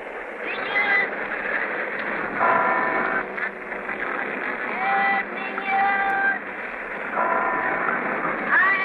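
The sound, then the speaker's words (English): A steady, muffled roar of street traffic in Manila, recorded while moving on the Santa Cruz Bridge over the Pasig, with a newsboy selling papers; the ringing bells of a nearby cathedral rise out of it several times, and a traffic cop's short shrill whistle blast sounds at the very end. “You will hear the whistle of a traffic cop, a newsboy selling papers, and the bells of a cathedral nearby.”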